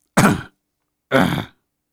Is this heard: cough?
yes